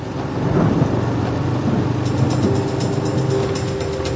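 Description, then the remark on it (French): Heavy rain pours in a dense, steady hiss beneath a low, continuous rumble of thunder, with faint mechanical clicks and a soft hum running underneath; no one speaks. A thunderstorm with heavy rainfall in Bavaria. “Tief Tim bringt heftige Regenfälle und Gewitter nach Bayern.”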